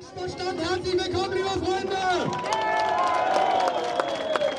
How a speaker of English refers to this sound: A crowd cheers at an Alternative für Deutschland rally in the town of Querfurt. It's here in the region of Sachsen-Anhalt that the far-right party is aiming to take power at a state level for the very first time.